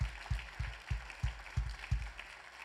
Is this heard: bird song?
no